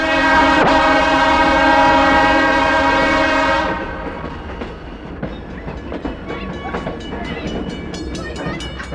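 A train's horn blares loudly for several seconds, then gives way to the steady rumble and rhythmic clatter of a passenger train rolling along the rails.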